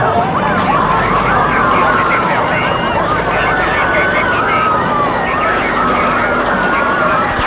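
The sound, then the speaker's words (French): Several police and fire engine sirens wail over one another at once amid ruined, burning buildings, their rising and falling tones tangling into a loud, continuous chaotic din with a rumbling, crowded background. “La police, les pompiers.”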